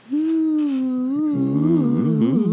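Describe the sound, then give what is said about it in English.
People imitate spooky ghost moans, a long wavering hooting "ooo" held for over two seconds, first one steady voice, then a second joining with sliding, warbling pitches. “Well, those are really terrible ghost sounds we're making. Sounds like a wounded whale.”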